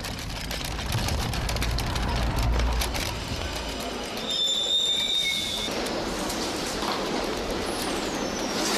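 A train carriage rolls along the rails with a steady, loud rumble and clatter, and a brief high metallic wheel squeal rises midway before the rolling noise continues.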